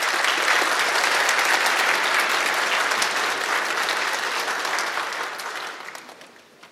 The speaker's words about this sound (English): We'll give her a round of applause.